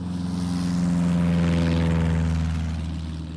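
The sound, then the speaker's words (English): A small red propeller plane drones steadily overhead in the sky, its buzzing engine swelling slightly louder mid-pass before beginning to fade, with no voices present. “It's just up there with its motor buzzing in the air, buzzing in the sky and buzzing round my brain.”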